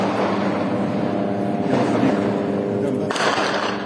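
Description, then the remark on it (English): A steady, droning buzz of a drone hangs overhead throughout, with a couple of muffled bursts of fighting nearby breaking through the constant noise, filmed amid the rubble of a destroyed mosque, a former 12th-century Crusader church, in Gaza. “You can hear the buzzing of a drone and fighting nearby.”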